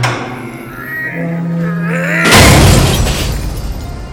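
Metal creaks and groans with a low steady hum, then a loud crashing impact at about two seconds as Colossus picks up a car and slams it down, sending up a long, noisy clatter of crunching, rattling debris that slowly fades.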